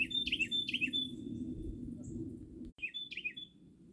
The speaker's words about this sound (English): You know, I'm out here at the dock recording this. And there's always a bird that starts getting loud. But you know what? It's nature, baby. It's nice out here. On the water,